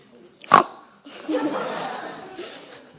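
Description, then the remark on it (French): A person imitates a pig, starting with one sharp snort and then a rough, breathy grunting that drags on for a couple of seconds. It is moderately loud, with no talking. “Comment ils font les porcs? Ils font quel bruit? Quel son?”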